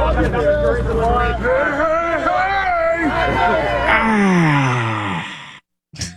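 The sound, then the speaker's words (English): A man yells a Fat Albert line at Bill Cosby as he walks out of the courtroom, loud and drawn-out in a sing-song voice whose pitch swoops up and down, ending on a long falling note over faint crowd murmur before cutting off abruptly. “Dude, if you couldn't hear, that was Bill Cosby walking out of the courtroom and someone yelled a Fat Albert line at him and he responded with oh man, that and the show with the B on the pen.”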